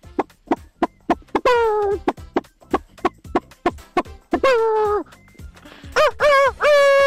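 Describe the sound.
A radio listener's voice imitates a rooster, loud, with rapid sharp clucking clicks broken by three drawn-out crowing calls, the last one rising and wavering.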